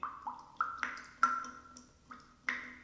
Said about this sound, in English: Well, now, gotta turn it. I think that should do it. What's that dripping?